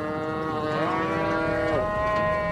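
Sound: cattle mooing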